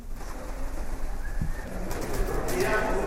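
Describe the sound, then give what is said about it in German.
Pigeons coo softly in a low, murmuring burble as real pigeons are flown through a city theatre (Stadttheater) during a Cinderella (Aschenputtel) production, against a busy, noisy background with faint indistinct voices blending into the ambience. “Oder beim Aschenputtel hat der René Egli echte Tauben durchs Stadttheater fliegen lassen.”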